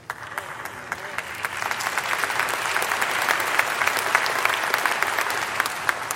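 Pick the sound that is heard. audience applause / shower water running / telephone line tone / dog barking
audience applause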